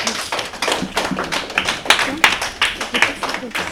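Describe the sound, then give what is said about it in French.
A crowd applauds a correct quiz answer steadily: dense, crackling handclaps form a continuous patter of sharp strokes at a fairly loud level, with no break from start to finish. “On peut les applaudir.”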